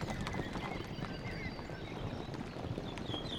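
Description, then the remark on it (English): Horse hooves clip-clop steadily and rapidly, a dense run of hoofbeats over an outdoor background with faint high bird-like chirps; no one speaks. “I like galloping best.”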